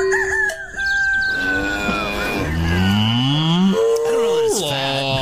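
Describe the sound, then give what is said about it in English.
A big, fat cow wandering toward the listener moos loudly, a long drawn-out low call that rises and wavers, with a rooster-like crow or fowl sound heard briefly near the start. “All right, so I see a nice big fat cow wandering our way.”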